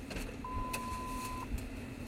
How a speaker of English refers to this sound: I'm in my car as always. Got the defroster going, which is making some noise, but I'm cold, so screw you.